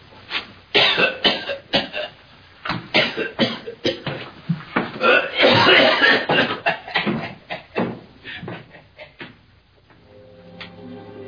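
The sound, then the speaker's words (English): A prolonged fit of harsh coughing and throat clearing from a bone stuck in the throat, with rapid bursts, a long rasping hack in the middle, then the coughs taper off into quiet. “I'm sorry, I coughed. You see, bone gets stuck in my throat.”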